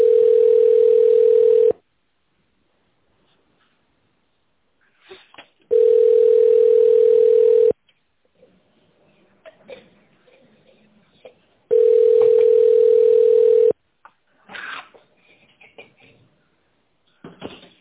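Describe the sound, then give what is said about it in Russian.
A telephone ringback tone while a call is transferred to an employee's mobile phone: three steady, loud single-pitch beeps, each about two seconds long, separated by roughly four-second gaps with faint line noise between them. “Перевод на сотовый телефон сотрудника.”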